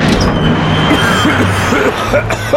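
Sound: coughing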